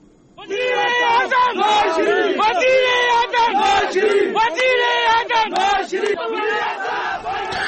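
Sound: crowd of supporters chanting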